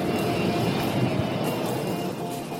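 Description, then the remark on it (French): A steady, loud airplane engine roar from a plane that has not yet taken off, droning continuously with a broad rumbling hiss and faint whining tones, unchanging throughout, with no voices. “Pourquoi il ne décolle pas ce putain d'avion ? Ah, vous avez remarqué, vous aussi.”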